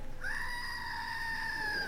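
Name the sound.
screaming goat toy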